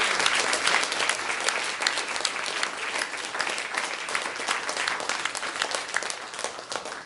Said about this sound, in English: So let's give the Lord a hand clap of praise.